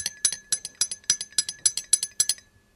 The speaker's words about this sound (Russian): Ты что, никогда на ложках не играла? Нет. Да ты что? А на склянках? Смотри, как здорово получается.